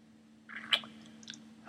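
Quiet wet chewing and sticky mouth noises as warm, sticky syrup is tasted, with one sharper smack in the middle and softer squelchy licks after it, over a faint steady hum.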